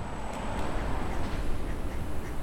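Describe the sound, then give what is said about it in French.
A common moorhen calls a few times with short, harsh croaking notes, not very loud, over a steady wash of outdoor background noise. “Poule d'eau, on l'a entendu là.”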